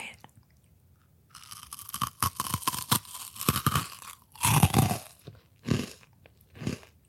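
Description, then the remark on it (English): Crisp, airy crunching of freeze-dried sour candy, originally chewy and gummy, freeze-dried for about two days, being chewed: a series of loud irregular bites and crackles with short pauses between them, no talking. “But I love how like airy and crispy it is.”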